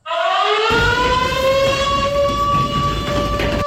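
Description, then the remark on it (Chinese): A loud alarm siren wails steadily, its tone swelling and climbing slightly in pitch, with a rushing background noise underneath and no voices. It signals the emergency start of a multi-subject combat-readiness drill of the Tianjin Armed Police special operations unit. “伴随着急促的警报声，武警天津总队特战大队一场实战化多科目拉动演练紧急启动。”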